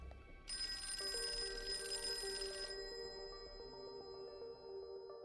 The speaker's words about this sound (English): He wanted to speak with Dr. Leninger again. When he called the Leninger's house, Mrs. Leninger picked up the phone.